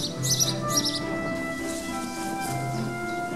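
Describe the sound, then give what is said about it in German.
Birds chirp outdoors in a flower garden, with two quick bursts of bright, twittering notes near the start followed by fainter calls, all over a steady low background hum. “Diese Farben und Formen, es duftet, es zwitschert, es jubiliert.”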